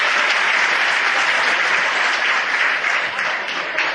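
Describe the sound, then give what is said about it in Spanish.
Steady audience applause fills the whole stretch, a dense, even wash of many hands clapping at a loud, constant level with no voices standing out. “Un aplauso para todos y hasta otro año si Dios quiere.”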